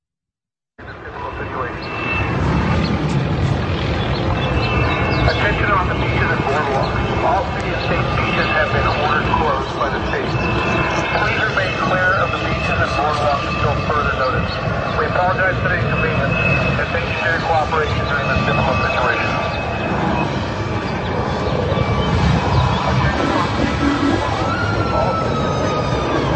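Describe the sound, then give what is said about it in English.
A helicopter patrolling a beach drones loudly and steadily overhead for the whole stretch, its engine roar broad and constant, with an indistinct amplified voice telling people they can't go outside faintly blended under the noise. “And then let's take a look at video clip number 3, where we have helicopters patrolling beaches telling people that they can't go outside.”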